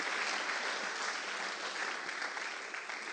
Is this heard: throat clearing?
no